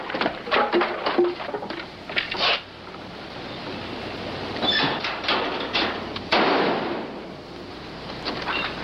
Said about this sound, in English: This is the plane crashing into the house.